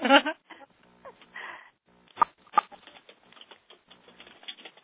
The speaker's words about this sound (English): I hear people typing.